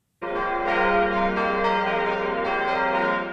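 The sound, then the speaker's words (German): Bells of the abbey church in Tholey, Saarland, Germany, ring out loudly and continuously, a rich layered peal with fresh strikes swelling every second or so over a sustained resonant hum. No voices are heard. “2 Jahre haben die Glocken der Tholeyer Abteikirche geschwiegen.”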